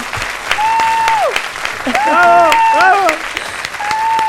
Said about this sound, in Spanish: Un aplauso para ella, que ya está aquí.